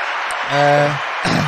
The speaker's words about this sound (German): Nein, da geben wir euch wirklich einen Applaus.